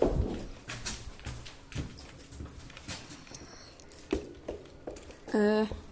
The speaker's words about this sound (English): Hang on. Oh, it opened inwards, didn't it? Silly me. Silly me! Here we go. Oops, I didn't mean to slam it though.